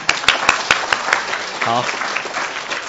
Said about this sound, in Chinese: 哎，弟兄姊妹，我们鼓掌欢迎他们哈。